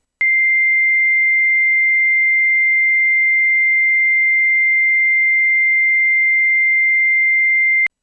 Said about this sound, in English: It's a really annoying sound, but it just kind of cuts through the attack energy, and we immediately feel relief. For a quick analysis of the sound, we're going to play the square wave right now. And let's hear the high tone C.